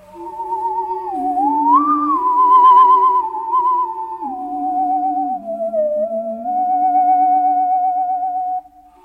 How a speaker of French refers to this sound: Comme c'est beau. Qu'est-ce que c'est? C'est une scie musicale.